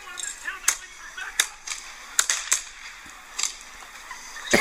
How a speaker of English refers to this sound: Are you playing audio from a future episode of Gotham? Yeah, well, it's gunfire.